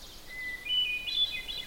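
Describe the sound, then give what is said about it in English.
A hermit thrush sings in coniferous woods of white spruce, balsam and jack pine with a mossy understory: a held preliminary note followed by a quick run of higher, flute-like whistled notes, soft against a faint background hiss. “And the flute-like song is the hermit thrush.”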